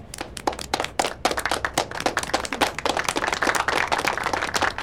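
A class applauds at the teacher's request after Frankie shares his composition about his dream. Many hands clap in a dense, continuous patter that holds at an even, fairly loud level for several seconds with no voices.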